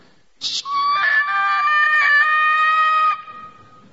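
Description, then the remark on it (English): A single loud, high-pitched scream that starts abruptly and holds steady for nearly three seconds before cutting off, heard alone with no talking around it. “There's no screaming. People just moving in slow-mo. Guess which one we heard?”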